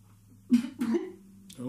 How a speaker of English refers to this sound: but he get done coughing, he's gonna say that motherfucker too. And I just ran the wrong pipe.